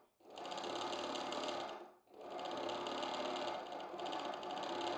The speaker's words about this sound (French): À son rythme, la machine à coudre pétarade.